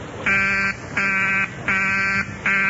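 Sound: telephone busy signal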